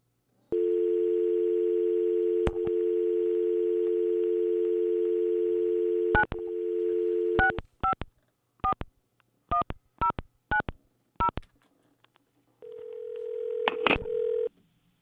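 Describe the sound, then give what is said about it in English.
A steady telephone dial tone hums for several seconds, then a quick series of short keypad beeps dials a number, followed by another tone, on a call placed from KVSC Radio. No voices, just the phone line, clear. “Phone hung up before they answer.”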